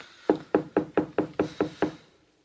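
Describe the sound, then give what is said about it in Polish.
A rapid series of eight firm knocks on a door, evenly spaced, with no voices. “Pukaj. Pukaj.”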